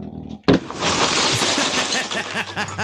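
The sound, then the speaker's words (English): A single heavy, sudden slam as a bighorn sheep, after staring at its reflection, rams a glass window, followed by a sustained burst of harsh, crackling noise, with muffled voices underneath. “That's him hitting the window, people.”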